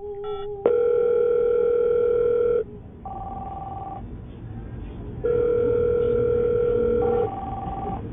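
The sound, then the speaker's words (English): A phone call to a toll-free phone line connecting: steady electronic ringback tones repeat in long bursts with pauses between, loud and clear over a faint line hiss, with no one speaking. “So I recently called this toll-free phone line.”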